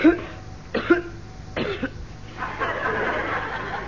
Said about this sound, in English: No, I just felt like coughing. Sort of clears my throat.